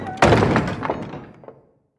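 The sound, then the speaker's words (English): A heavy stockade door slams shut with one loud, booming thud, followed by a couple of softer clicks as it is locked and the rumble dies away. No one speaks. “He's hauled back to the camp and thrown on the floor of the stockade, the door slammed and locked behind him.”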